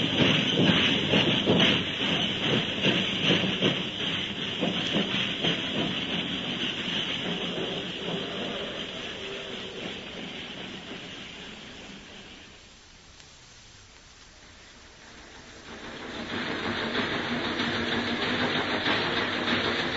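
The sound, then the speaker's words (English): A train leaving the city on an air brake demonstration run rumbles along the rails with a steady, rhythmic clatter of wheels, fading briefly to a quieter hush before the loud, broad rolling noise swells back up. No one speaks. “Imagine trying to stop a train with wind.”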